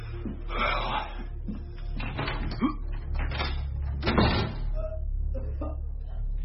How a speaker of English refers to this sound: Front door.